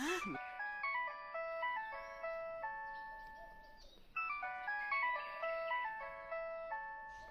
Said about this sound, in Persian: موبایلت جواب بده